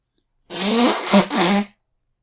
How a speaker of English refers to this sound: I have to blow my nose.